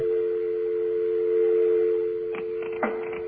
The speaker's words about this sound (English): Did you get an answer machine? I hear a dial tone.